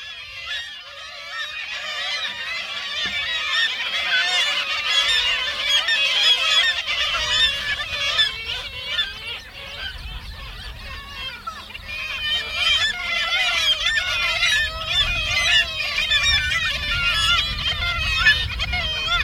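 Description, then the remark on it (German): A dense, continuous din of several thousand breeding pairs of kittiwakes calling at a breeding colony on the window sills of abandoned buildings in Pyramiden, where they nest every summer; overlapping nasal cries fill the air with a loud, steady roar and low rumble beneath. “Und was ihr in den kommenden Sekunden hört, sind mehrere tausend Brutpaare von 3-10-Möwen, die sich hauptsächlich auf den Fensterbänken der verlassenen Gebäude jeden Sommer zum Nisten niederlassen.”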